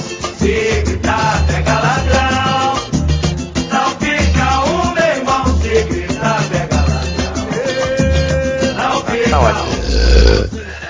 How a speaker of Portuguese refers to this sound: com esse arroto lindo, maravilhoso e saboroso, começamos o podcast MDM